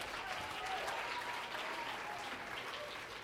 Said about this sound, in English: Come on, clap your hands.